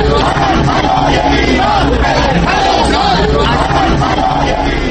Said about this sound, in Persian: فریادهای اعتراض ایرانیان در خیابان 47 که خیابانی عمود بر خیابان 1 مقر سازمان ملل متحد است به خوبی در محبتی بزرگ این سازمان جهانی شنیده می شد و تردیدی نیست که رئیس جمهوری اسلامی هم حتی برای لحظه ای این فریادهای اعتراض مخالفانش را شنیده است.